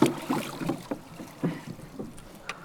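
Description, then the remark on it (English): A crew boat moves through water with quick, rhythmic paddle strokes, each one a splashy churn, over a light rush of wind against the microphone. No one speaks. “Everybody thinks it's just getting in the boat and paddle hard, but it's not.”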